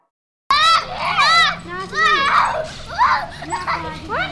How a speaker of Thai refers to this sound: ในสวนแห่งหนึ่งที่มีเสียงเด็กๆเล่นกันเหมือนกับที่เคยเป็นเช่นทุกวันแต่เบื้องหลังของเสียงหัวเราะนั้นคืออดีตอันแสนเจ็บปวดนี่คือเด็กๆชาวยาซิดิสชนกลุ่มน้อยที่ถูกข่มเหงทารุณอันเนื่องมาจากความเชื่อทางศาสนาของพวกเขา